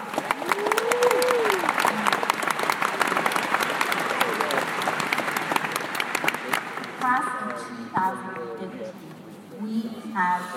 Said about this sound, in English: Everyone here has endured the difficulties and triumphs of this challenging path of higher education, and for that, we all deserve a huge congratulations and a round of applause.